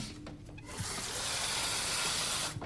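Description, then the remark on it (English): Water runs steadily from a tap into a glass, a close, bright rushing hiss that starts after a brief pause and continues without a break. No one speaks. “She fills a glass from the tap.”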